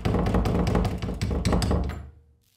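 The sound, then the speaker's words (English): A locked front door handle is rattled and jiggled by someone outside trying to get in, about two seconds of quick clicking, knocking clatters that then stops, leaving near silence. “The silence was disrupted by the sound of the front door handle being turned.”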